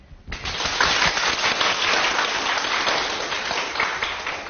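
An audience in the memorial hall at the site of the First National Congress of the Communist Party of China breaks into applause to welcome a Party history expert, after a brief quiet moment, a dense, steady crackle of many hands clapping that holds fairly loud throughout and fades slightly toward the end.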